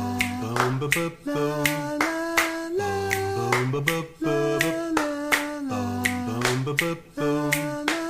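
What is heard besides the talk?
finger snapping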